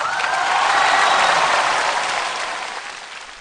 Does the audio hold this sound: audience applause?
yes